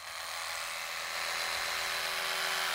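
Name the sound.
electric toothbrush running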